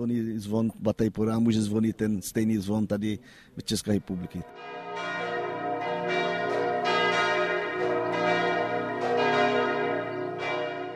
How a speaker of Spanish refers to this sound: La campana de Bataiporá sonará igual que la campana de la República Checa.